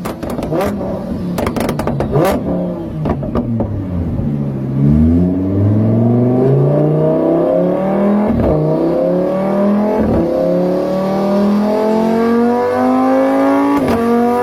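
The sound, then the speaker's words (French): Loud V8 car engines rev hard in a town, their deep roar climbing steadily in pitch through repeated accelerations, punctuated by sharp cracks and pops, with no voices. “Voyez les gros V8 qui font du bruit ?”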